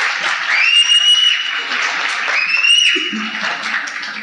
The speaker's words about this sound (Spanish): Aplauso mientras tomo agua. Aplauso mientras tomo agua.